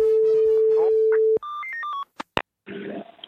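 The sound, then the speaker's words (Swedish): A telephone call being placed by police in Kalmar, Sweden: a steady dial tone, a quick run of keypad beeps and clicks, then a short buzzing ring on the line. Clear, with no one speaking. “Och det är ju där man ringer.”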